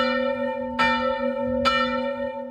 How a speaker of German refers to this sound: dass die Kirchenglocken pünktlich läuten